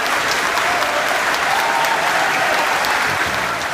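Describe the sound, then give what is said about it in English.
An audience applauds for Rosemary, named Honest Woman of the Week: a dense, even wash of many hands clapping at a constant loud level throughout, with no speech over it. “Ladies and gentlemen, let's have a big round of applause for Rosemary.”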